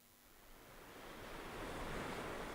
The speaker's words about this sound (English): Waves are crashing under the shore of Door County's Whitefish Dunes State Park. They're carrying fine sand that wind stacks into towering dunes.